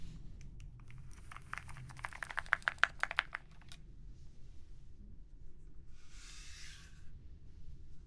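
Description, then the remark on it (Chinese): A quick burst of crisp, clacky keystrokes on a second, somewhat heavy mechanical keyboard used for immersive creative work, fairly loud for a few seconds, then it stops and a brief soft rustle follows over a quiet low hum. “但是今天呢，因为要沉浸式的创作，所以会使用另外一把键盘。”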